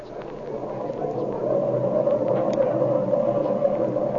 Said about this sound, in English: But now it is morning and a superb day for flying. Here are Jimmy and Speed leaning against the lower wing of their training plane as Flash Lewis warms up the engine.